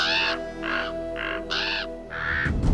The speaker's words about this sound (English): He left them to their revels to find Odin at the window behind his throne, looking out over the cosmos. The ravens Hugin and Munin squawked on his shoulders.